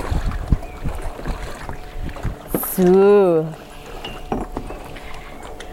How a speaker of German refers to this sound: Jetzt ist hier gerade Action, weil ein Boot vorbeigefahren ist.